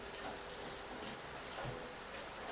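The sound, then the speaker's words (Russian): Steady rain falls in a continuous, even hiss, with no pauses or distinct drops standing out. It sounds fairly soft, with no voices over it. “А дождь все идет.”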